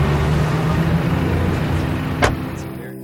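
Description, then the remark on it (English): A car's steady low engine rumble with a constant hum, broken near the end by a single brief thump before the noise fades slightly. No one speaks. “Thank you for letting me get in your nice car.”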